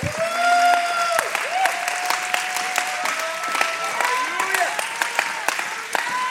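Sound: audience clapping hands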